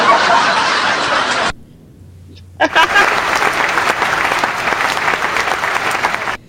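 Loud bursts of a canned applause sound effect in the style of 1990s television, a dense crackle of clapping that cuts off abruptly, leaves a brief near-silent gap, then resumes just as loud and steady until the end.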